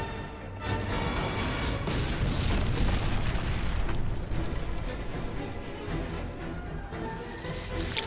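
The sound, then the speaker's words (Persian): A methane gas explosion in a tunnel: a loud, sustained roaring blast with deep rumbling that fills the whole stretch without letting up, powerful, with no voices. “معذرت میخوای که منفجرمون کردی؟”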